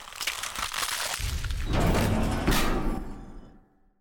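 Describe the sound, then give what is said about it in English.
A violent burst of crunching and tearing metal as the roof of a truck is demolished, with crackling and crumpling layered over a heavy low rumble of impacts, building for a few seconds before quickly dying away. “He immediately wolfs out and completely demolishes the roof of the truck.”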